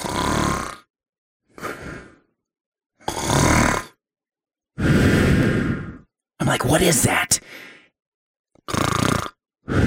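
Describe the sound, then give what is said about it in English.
A man imitates loud snoring with his voice, several raspy, throaty bursts in a steady rhythm, followed by a brief spoken question. “It sounded exactly like someone snoring.”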